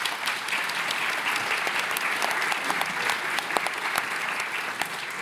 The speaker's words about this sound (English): And perfectly on time as well, which is, you know, deserve another round of applause for that.